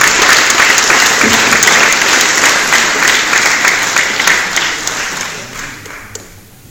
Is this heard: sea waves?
no